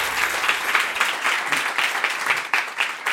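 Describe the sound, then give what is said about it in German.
Sustained applause from an audience after round 1 of a contest, a dense, steady wash of many hands clapping at once with small swells in loudness and no voices on top. “Einen großen Applaus.”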